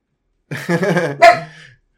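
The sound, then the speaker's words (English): A dog lets out a single drawn-out, throaty bark, rising into a sharper burst near the end before trailing off. No one speaks over it. “Anyway, while the dog barks and we talk about prostates, mm-hmm.”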